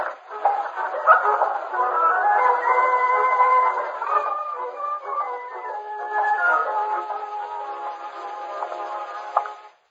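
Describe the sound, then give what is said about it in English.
A found dog whose home is unknown howls and whines in long, wavering cries that rise and fall continuously for about ten seconds, fairly loud, with no talking. “No, but we have a dog here, and we don't know where he lives.”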